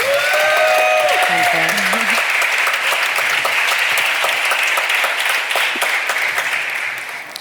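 An audience applauds loudly and steadily for several seconds to welcome two guests, dense clapping with a few cheers and whoops at the start, then the applause begins to fade at the end.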